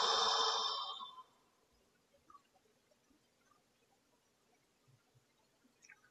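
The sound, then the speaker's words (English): A single deep, breathy exhale out through the mouth, part of deep breathing in through the nose and out through the mouth, lasts about a second, then gives way to near silence with only faint, scattered small sounds. “So, you might have a few deep breaths together, breathing in through the nose and out through the mouth.”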